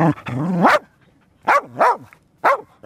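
A female rescue dog named Anu, working with a drone, barks four times: a long, drawn-out first bark, then three shorter, rising barks with brief pauses between them, loud and clear with no voices.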